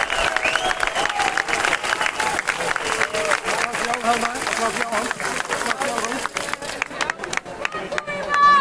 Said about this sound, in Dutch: Dank jullie wel. Yes, dank jullie wel. Applaus voor jezelf.